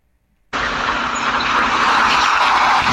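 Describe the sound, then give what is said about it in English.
After a brief silence, the loud, heavy roar of a runaway garbage truck bursts in and keeps building, a rumbling rush as it flies by in a video, with no voices. “We saw a little bit of that garbage truck flying by.”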